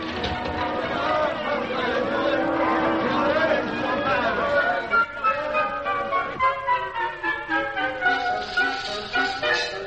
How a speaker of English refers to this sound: Well, let the crowds in. Open the door.